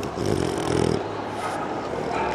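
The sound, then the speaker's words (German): Close, rough snuffling from a dog right at the microphone: a loud, breathy burst followed by softer, wet sniffing noises, with no talking. “Ich bücke mich runter zum Hund und lasse an meinem Mikrofon schnüffeln”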